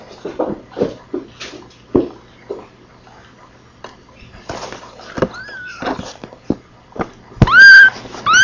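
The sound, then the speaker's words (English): Several thin, high mews from the kittens of a cat named Beauty rise and fall, the last one louder, scattered among soft clicks and rustling handling noises; recorded June 29, 1978. “Mew. Mewing. Oh, mew.”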